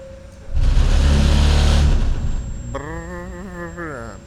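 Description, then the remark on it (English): A heavy dump truck engine at a road paving site roars and revs loudly, then settles into a steady, whining mechanical drone with a hydraulic-sounding hum as the emptied truck lowers its bucket. “Is this truck empty now?”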